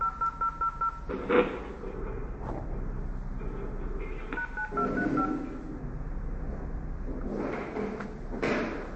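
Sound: telephone dialing tones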